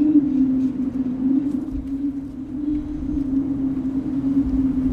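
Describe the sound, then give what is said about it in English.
A steel wind harp sculpture made by an artist drones on one sustained low pitch in the wind, steady and unbroken for the whole stretch, with a soft gusty rumble of wind beneath it and no voices. “is made of steel, which is a natural product, I guess, we mine out of the earth, you know, and it was made by an artist, and it uses the wind to make art, so it seems really natural to me,”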